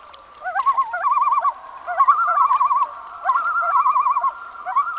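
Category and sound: bird, common loon calling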